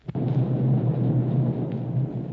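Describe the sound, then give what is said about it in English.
An explosion coming from Galto Island, just off starboard of a ship: a sharp thud at the start, then a deep, steady rumble that booms on for a couple of seconds like rolling thunder, with no voices. “And those explosions are coming from Galto Island.”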